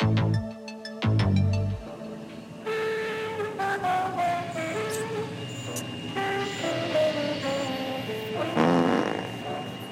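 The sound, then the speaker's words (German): A person's voice imitates spaceship noises, with buzzing, blown raspberry-like tones and warbling, wobbling hums that rise and fall continuously for the whole stretch. “Ich mach Space-Geräusche.”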